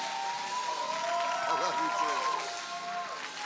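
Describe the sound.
An audience at a morning church service claps and cheers for the guest preacher about to bring the word: dense, steady applause runs throughout at an even loudness, with sustained high-pitched whoops and shouting voices rising over it.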